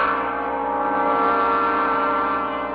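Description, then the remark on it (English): The door bell of an antique shop rings with a steady, sustained metallic tone that holds at an even loudness for a few seconds, announcing a customer's arrival in the morning, with no voices. “By the following morning, I felt almost myself as the bell to my antique establishment announced one of my favorite and most lucrative customers,”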